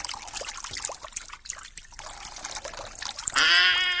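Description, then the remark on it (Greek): Water and peas are poured into a container while the peas are being washed: the liquid dribbles and trickles steadily for a few seconds, then pours in more heavily, with a ringing tone that rises in pitch as it fills. “Νερά, μπιζέλια, νερά, μπιζέλια, πλάτς, πλούτς, ωραία.”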